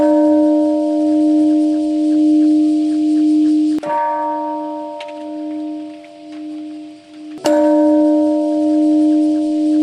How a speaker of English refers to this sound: The bells tolled.